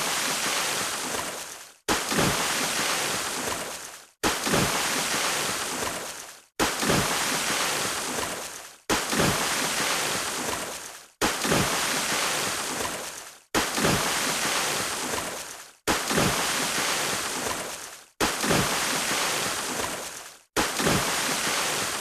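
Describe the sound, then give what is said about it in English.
Ten loud water splashes, one roughly every two seconds, each a full rushing burst that fades out before a brief silence and the next splash. No one speaks. “I think I counted right that that's 10 splashes for the 10 partner pledges.”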